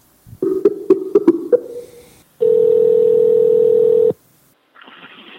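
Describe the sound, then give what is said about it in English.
A run of quick keypad beeps as a number is dialed, then a single steady telephone tone holds for about two seconds before cutting off, followed by a faint hiss of line noise. “He's raising money for clean water for Africa, and we are going to call him right now.”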